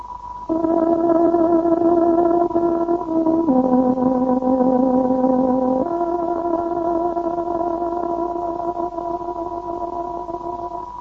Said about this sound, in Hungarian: Most pontos időjelzést adunk, tárogatónk 20 órát jelez.